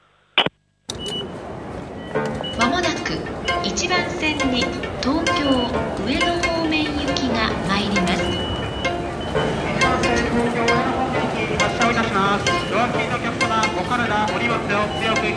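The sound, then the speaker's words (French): Rush hour at Shinagawa station on the Yamanote line in Tokyo: a dense, steady wash of many overlapping voices and bustle, loud and continuous after a short sharp click at the very start. “C'est une des gares qui est sur la Yamanote. C'est là où se situent tous les gros centres de Tokyo, dont la gare de Tokyo, Shibuya, Shinjuku.”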